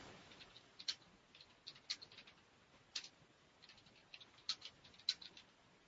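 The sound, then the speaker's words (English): Soft, irregular clicking of keys as someone types a message on a keyboard, fairly quiet, with short bursts and pauses between taps and no voices. “I'm just typing in a message here.”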